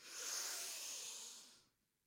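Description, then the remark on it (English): A deep, airy breath drawn in during a breathing exercise, a steady hiss lasting over a second before fading out into near silence. No one speaks. “And let's just do that one last time. Breathe in.”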